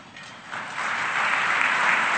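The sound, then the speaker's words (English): An audience breaks into applause for thanked sponsoring businesses, the clapping starting softer and swelling into a steady, dense patter of many hands that keeps building through the end. “Clap now, you're gonna like that cookie from Anna's.”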